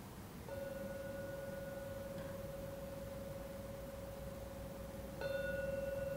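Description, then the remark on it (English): A meditation gong, rung to conclude a meditation, is struck and rings with a long, steady, humming tone, then is struck again, more loudly, near the end. No one speaks, and faint background hiss sits underneath. “Now ring the gong 3 times to conclude the meditation.”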